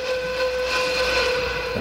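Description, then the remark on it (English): A train's steady, sustained whistle blows loudly over the rumble of the rails, a continuous tonal blast holding for the full moment with no voices present. “Is that an easterly train, I hear?”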